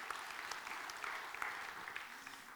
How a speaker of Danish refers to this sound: Og han fortjener en klap selv. Amen. Halleluja.